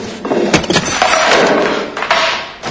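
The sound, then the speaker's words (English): Lem slams shut the glass-paned door to Bird's hair salon shop with a loud, sharp bang, followed by rattling and clattering of the glass and frame over a couple of seconds. “Lem shows up at Bird's and slams a glass pane door to her shop.”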